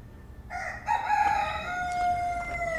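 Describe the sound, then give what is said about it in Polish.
A single rooster crows, a loud, drawn-out cock-a-doodle-doo, with a faint low rumble underneath and no one speaking. “Czy ten znak coś ci mówi? Kogut.”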